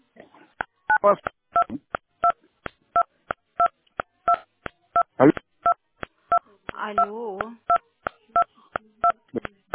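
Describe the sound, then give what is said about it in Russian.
Rapid, evenly spaced telephone keypad beeps repeat throughout, dozens of short dual-tone pulses over a phone line, interrupted by brief garbled bursts of a voice and crackling interference. “Алло, вот, сейчас слышно. Какие-то помехи были.”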